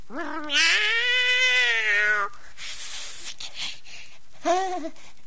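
A cat lets out a long, drawn-out meow, loud, then after a breathy pause gives a second, much shorter meow.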